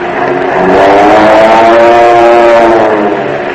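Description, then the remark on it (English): Powerful piston engines of Army Air Force military aircraft roar steadily and loudly, a deep harmonic drone that swells slightly and holds throughout, with no voices over it. “Those engines sound pretty powerful, don't they? And that's the kind of planes your Army Air Force has today.”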